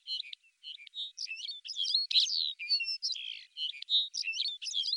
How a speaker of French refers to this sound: Un cadre idyllique, calme, avec des petits oiseaux qui font cuicui?